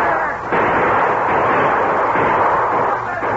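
cannon fire

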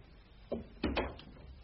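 door closing

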